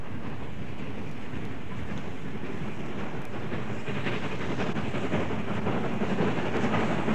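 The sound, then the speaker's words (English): The steam locomotive Flying Scotsman accelerating away from Northolt Junction, heard as a loud, continuous heavy rumble with rapid rhythmic beats running throughout, steady, with no one talking. “And the sound you hear now is of Flying Scotsman accelerating away from North Holt Junction.”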